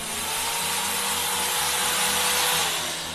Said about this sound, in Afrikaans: Dan boor ek jou verstandtanne uit. Met hierdie boor.